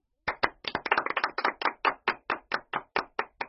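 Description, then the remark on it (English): Lively hand clapping by a small group, standing for monkeys, zebras, giraffes, lions and elephants clapping, starting in a brisk overlapping flurry and settling into a steady, evenly spaced rhythm of single claps, clear with no talking. “They all clap and clap.”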